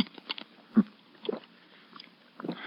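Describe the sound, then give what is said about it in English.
Someone sips water through a glass straw: a few soft, wet slurping and swallowing noises in short, irregular bursts, quiet, with no talking. “Here, sip a little water through this glass straw.”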